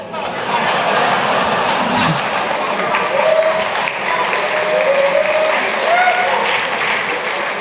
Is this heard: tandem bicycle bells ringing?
no